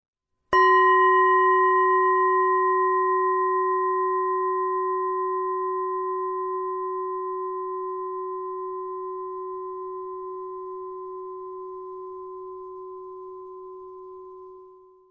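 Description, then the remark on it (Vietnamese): A single meditation bell is struck once to begin a session of sitting meditation, producing a clear, resonant tone with a low fundamental and bright overtones that rings on and slowly fades over about fourteen seconds, alone with no voices. “Bây giờ mời đợi chúng nghe một tiếng chuông và chúng ta bắt đầu bước vào giờ thiền tọa.”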